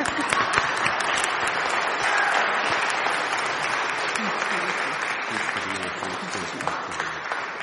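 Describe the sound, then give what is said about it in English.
A church audience applauds steadily after welcoming a newly baptized person into the body of Christ, many hands clapping in a dense, sustained wash of sound that holds for several seconds, with faint voices mixed in toward the end. “And now we can clap.”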